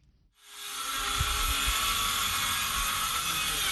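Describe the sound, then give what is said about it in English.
Power drills roar up after a brief quiet moment in the village of Guidemartin, about 100 km from Dakar, Senegal, a loud, steady high-pitched whine with low thumps underneath, running continuously. No one speaks. “The roar of power drills fills the air in the village of Guidemartin, a typically quiet community of 2,000 people located some 100 kilometers from the Senegalese capital of Dakar.”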